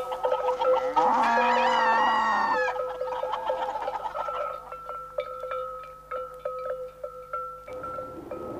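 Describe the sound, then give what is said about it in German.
A loud, drawn-out cow moo rises with harmonic bands on a small farm, followed by a steady stream of sharp clucks and squawks from many chickens, with a constant low hum beneath, no talking. “Die Großeltern haben einen kleinen Bauernhof mit Kühen und vielen Hühnern.”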